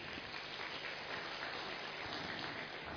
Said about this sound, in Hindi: मैं बहनों से रिक्वेस्ट करूंगी कि गुलदस्ते से और तिलक के द्वारा स्वागत करें और हम सभी तालियों से स्वागत करेंगे।